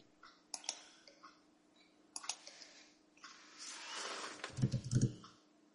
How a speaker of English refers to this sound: Sorry, I was typing.